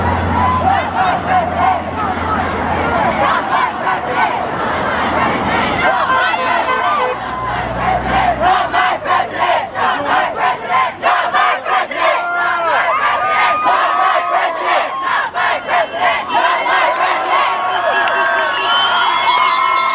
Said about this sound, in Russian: Да, друзья, вот у нас тут демонстрация. Я из офиса услыхал, что народ кричит. И, ну, звук такой. И думаю, что за демонстрация такая? И вот они вышли. Я не знаю, похоже на школьников вообще. Народ вышел на улицу El Camino Real и что-то кричит.